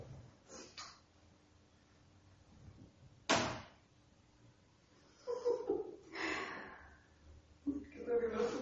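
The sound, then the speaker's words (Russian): A door opens and closes with a sharp thump partway through, surrounded by quiet room noise and some faint murmuring voices and breathing. “У вас дверь просто интеллектуальная сегодня.”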